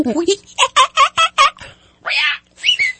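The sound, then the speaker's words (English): A person mimics a monkey, loud: a quick run of five sharp, chattering hoots followed by two harsher, breathy screeches, with no other talking. “Is that your monkey? Yeah, monkey and parrot.”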